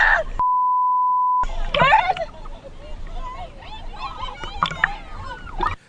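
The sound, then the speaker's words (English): A single flat, steady censor bleep sounds for about a second, cutting into a burst of speech, then several voices resume talking over a busy, noisy background. “who bleeps out a cell phone? Who curses out a bleep?”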